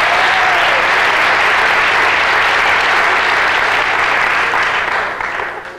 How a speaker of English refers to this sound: How many non-smokers are here tonight? Non-smokers, by round of applause. Let's hear non-smokers.